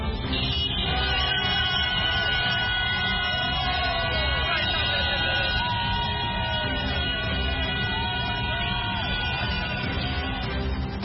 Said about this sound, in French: Cris de joie et applaudissements au Parlement zimbabwéen et concert de klaxons dans les rues d'Harare pour saluer la démission de Robert Mugabe.